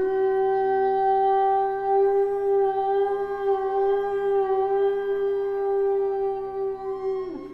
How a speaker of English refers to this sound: Using whalebone instruments to represent whales musically gives Gillian's work great integrity.